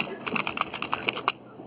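A quick run of light, irregular clicks like fingers typing on a computer keyboard, heard faintly through a thin, band-limited phone line with no talking.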